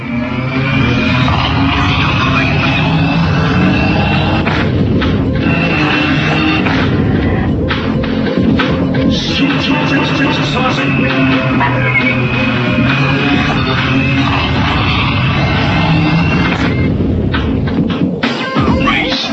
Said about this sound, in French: Vous entendez le bruit des moteurs? C'est ça qui vous donne l'impression de vitesse en fait. Tiens, on va écouter 2 minutes, je vais faire avec turbo, sans turbo.